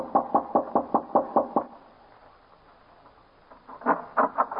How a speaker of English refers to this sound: So I went up to the main house, knocked on the door.